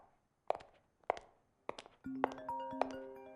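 Three dull, evenly spaced thuds like footsteps, then a phone starts ringing late at night with a bright electronic ringtone melody of steady sustained tones that keeps playing to the end.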